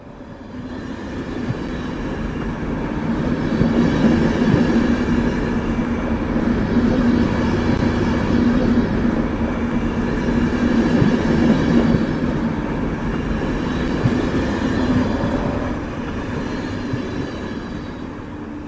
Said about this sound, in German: Achtung am Bahnsteig. Zug fährt durch.